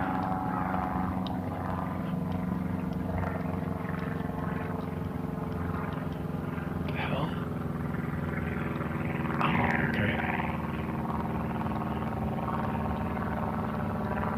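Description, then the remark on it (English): A small propeller-driven canard airplane, an old Rutan design with a big wing with upright tips and a long nose carrying the canard, drones steadily overhead, its low engine hum constant and fairly loud throughout, with a few faint higher chirps briefly rising over it. No one speaks. “It's one of the old Rutan designs with the big wing with the upright tips and a long canard in the front and a long nose with the canard on it there.”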